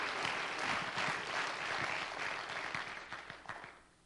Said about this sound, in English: You can go ahead and clap your hands and you can testify if you believe that's true.